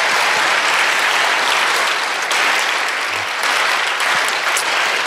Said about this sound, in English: He said if the next centennial, yeah, go ahead, that's worth clapping for.